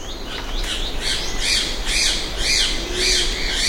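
A ribbon-tailed astrapia flying along a forest edge gives a series of harsh, rasping squawks, about five in a steady rhythm, loud against a soft, hissing forest background.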